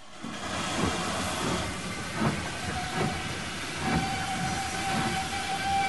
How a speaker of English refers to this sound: Tom stands on the railway platform with the boy as a train draws into the station.